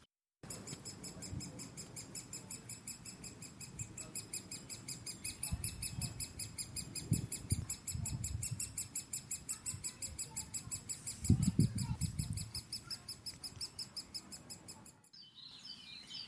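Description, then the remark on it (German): A great spotted woodpecker calls in a rapid, unbroken series of sharp, high, loud chirps over a soft low rumble. The calling stops abruptly near the end. “Die Rede ist vom Buntspecht. Und so ruft er.”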